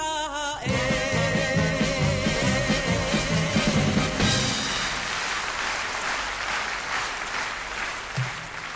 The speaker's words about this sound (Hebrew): מחיאות כפיים מגיעות לה בהחלט.